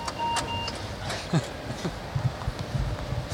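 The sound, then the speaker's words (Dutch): Steady low rumble of a moving train in Utrecht, with scattered soft knocks and rattles and a brief faint high beep at the start. Nobody speaks. “Dan zijn we in de trein.”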